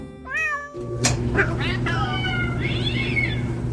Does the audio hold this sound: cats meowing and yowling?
yes